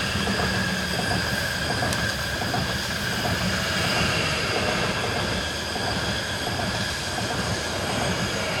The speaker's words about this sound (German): Es kommt aber ein Zug, gell, zum schnell stoppen.